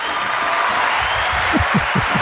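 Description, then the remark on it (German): An applause sound effect: steady applause, a dense even wash of clapping from a crowd that holds at a constant loudness throughout, with a faint low murmur of voices rising underneath toward the end. “Bitte, bitte hört nicht auf zu klatschen.”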